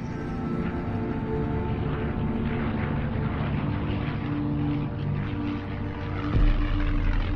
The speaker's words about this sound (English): Smoke streams from the bottom of a plane. Its propellers continue to turn.